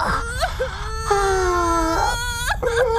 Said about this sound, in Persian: وای تو چقدر گریه میکنی؟ تقصیر توه، مثلا برادر بزرگتر هستی و باید مراقب ما باشی.